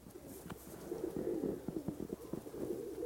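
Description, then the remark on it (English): A flock of pigeons cooing continuously, their low, throaty calls overlapping in a steady murmur, with no voices present. “If you listen carefully, you can hear all the pigeons.”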